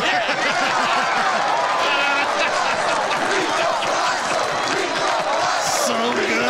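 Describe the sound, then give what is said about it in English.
A huge baseball stadium crowd in a scene from the film The Naked Gun roars in a loud, unbroken wave of cheering as a man takes off his mask, with shouts and whoops rising from many voices throughout. “And then after he saves the day, after he defeats Reggie Jackson and saves the day, he takes off the mask, and this was the crowd reaction.”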